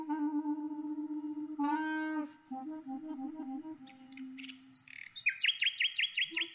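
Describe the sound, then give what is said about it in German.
A nightingale sings alone, shifting from a long sustained whistle to varied warbled phrases, then ending in a rapid, rhythmic series of loud, high chirps. “Man muss mit offenen Ohren durch die Welt gehen, um diesen Effekt und auch eine Nachtigall bewusst zu erleben.”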